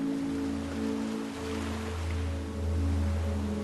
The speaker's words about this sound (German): Wir konzentrieren uns auf die Wellen, die sehr langsam auf den Sand und auf den Strand treffen.